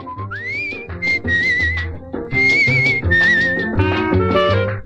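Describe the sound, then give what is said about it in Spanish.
A clear, loud whistled melody glides and sustains over a full band accompaniment with steady bass and rhythm, sliding upward at the start and carrying the tune throughout. “mucha gente que le escuchó silbó el pedacito donde dice ya silbar todos, sí, silbaron.”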